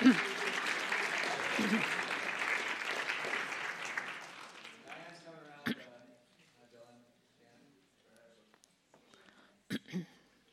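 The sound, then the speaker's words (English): A crowd claps loudly for about four seconds, the applause thinning out and fading, followed by quieter room sounds and a couple of soft knocks. “Let's give him a hand, a round of applause.”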